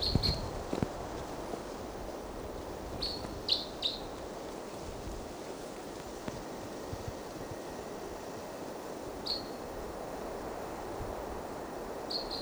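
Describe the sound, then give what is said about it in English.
A wild bird, recorded at 7 o'clock, gives short, high chirps in scattered bursts, a few close together then spaced apart, over a steady low rumbling background noise with no talking. “And there's a wild bird.”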